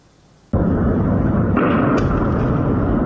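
After a brief quiet moment, a sudden loud blast erupts into a sustained, heavy rumbling roar, with another crackling burst about halfway through. No one speaks. These are early Tuesday morning explosions at the port of Latakia, Syria, where missiles fired from the Mediterranean struck the port's container area.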